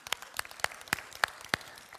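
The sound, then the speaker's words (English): A small group claps briefly, about six sharp, fairly evenly spaced claps over two seconds, bright and moderately loud, with no talking over them. The clapping comes from the speaker's family. “Now you deserve a round of applause, but only my family does it for you, okay?”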